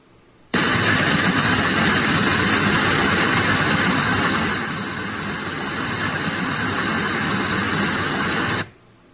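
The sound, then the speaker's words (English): A tinnitus simulation called static: a hiss switches on abruptly and holds steady and loud for about eight seconds, dipping slightly midway, then cuts off sharply. No one speaks. “It's called static.”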